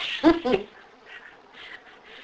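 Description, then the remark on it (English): A bird gives two loud, harsh calls in quick succession, then fades into a quieter background with faint murmuring. “Oh, he's a bird.”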